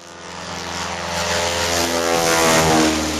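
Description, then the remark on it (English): A vintage de Havilland Beaver float plane drones overhead somewhere in the far north, its piston engine and propeller giving a steady, throbbing hum that swells gradually louder as it passes. “The sound is a vintage de Havilland Beaver float plane flying somewhere in the far north.”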